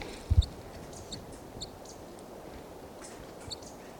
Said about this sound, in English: And that's the decoy crossbill there.